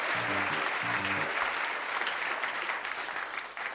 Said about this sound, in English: Okay, got a wonderful audience here. Give yourselves a big round of applause, because that always works.